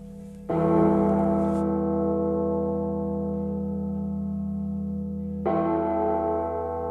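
Two loud, resonant bell strikes ring out about five seconds apart, each with a long, shimmering decay that hangs in the air, with a low sustained hum underneath and no voices.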